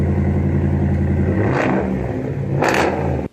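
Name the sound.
truck engine revving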